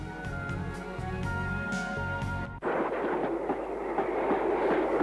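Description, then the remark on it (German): A passenger train to London rolls steadily along the rails with a rhythmic rumble and clatter; partway through, the sound abruptly shifts to a rougher, noisier roar, as if heard from inside a carriage. “So bestieg ich schon am nächsten Tag frohen Mutes einen Zug nach London.”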